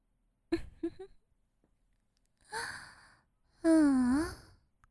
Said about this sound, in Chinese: 你喘息声变得好粗呀